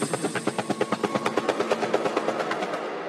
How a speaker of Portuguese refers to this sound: Dentro do helicóptero.